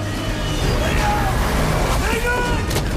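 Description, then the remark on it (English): Winter's monster collection truck pulls away with a heavy, steady engine rumble, a loud low roar that holds for about three seconds with a hiss of road and motor noise over it, as villains drive off in it. “The villains drive off in Winter's monster collection truck.”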